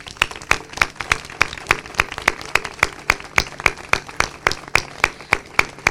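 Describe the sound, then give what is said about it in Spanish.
Hands clap in a steady, even rhythm, about four sharp claps per second, moderately loud and continuing throughout with no voices, like an audience clapping together in time, applauding the women taking part in an institutional event for equality. “Así que quiero empezar con este aplauso para vosotras.”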